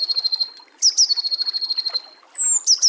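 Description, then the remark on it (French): A great tit or blue tit sings in high, thin notes, with a few sharp introductory calls leading into rapid, buzzing trills, repeated twice in clear outdoor air with no voices. “La maison charbonnière et la mésange bleue.”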